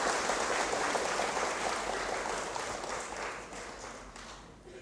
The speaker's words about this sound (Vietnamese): Nếu các thầy các sư cô hoan hỷ với đề nghị này đó thì hãy cho một tràng pháo tay.